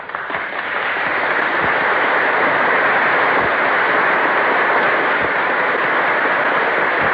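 Sustained, dense applause from a large crowd in a legislative chamber as the President enters, with senators and Cabinet members present. A steady hiss of many hands clapping at an even, loud level throughout, with no voices standing out.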